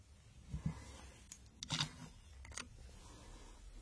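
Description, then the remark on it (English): Scissors from a desk being handled, with a few crisp metallic clicks and snips spaced irregularly over a few seconds against a quiet background. “I have scissors.”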